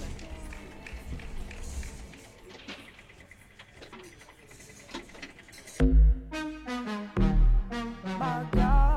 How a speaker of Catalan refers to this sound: Doncs un fort aplaudiment per elles i, si us sembla, deixem aquí el micro obert de moment i anem amb les següents entrevistes.